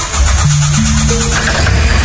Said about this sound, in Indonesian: untungnya mobil pun akhirnya menyala. Aku pun menunggu dulu 10 menit sambil memanaskan mobil dan meyakinkan semua kondisi baik-baik saja.